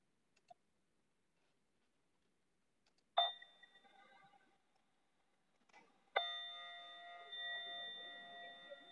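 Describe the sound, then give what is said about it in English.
A meditation bell is struck twice, a few seconds apart, each strike ringing out with a clear, shimmering tone; the second rings on longer and fuller. Otherwise the setting is quiet. “And with the next out breath and with the sound of the bell, allow them to gently float away.”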